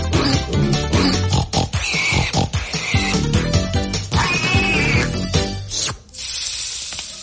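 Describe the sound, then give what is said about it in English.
A pig grunts and oinks rapidly and loudly, breaking into high, drawn-out squeals a few times, before the noise drops away to a softer rustling hiss near the end. “It's pig night here on Radio 2.”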